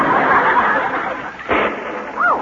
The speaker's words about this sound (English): Well, something's falling, and it must be rain, because pennies don't splash like that.